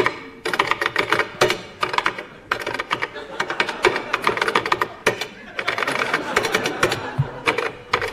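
Rapid typing on a keyboard, a dense stream of close, crisp key clicks in quick bursts with a few brief pauses, heard alone without any voices.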